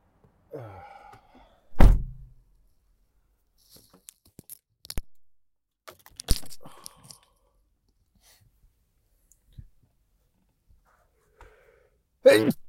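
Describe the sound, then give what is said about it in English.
A single loud sneeze bursts out after a short breathy build-up. Scattered faint clicks and knocks follow in quiet, and another sharp vocal burst comes at the end. “But you know what doesn't sneeze is soda.”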